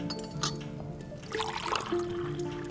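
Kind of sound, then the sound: household object, cups clinking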